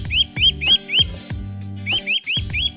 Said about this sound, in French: Oui, voilà, vous entendez ce petit son, et je l'ai reconnu, et je l'ai même vu. Un oiseau que j'adore, car c'est un joli petit grimpeur sur les arbres, qui a une particularité, c'est de se déplacer pratiquement sur un tronc à l'horizontale